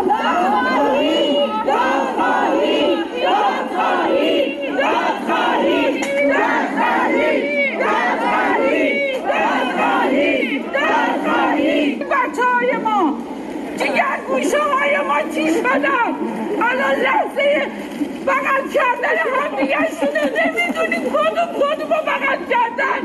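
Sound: crowd shouting calls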